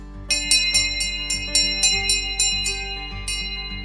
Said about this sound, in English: The school bell rings.